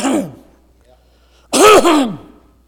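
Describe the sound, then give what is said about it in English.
A voice does a loud, rasping throat clear in two quick pushes, imitating clearing a tickle in the back of the throat, after a brief murmur and a short pause. “But when you get that little tickle down in the back of your throat, and you have to...”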